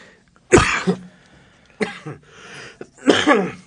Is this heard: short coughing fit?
yes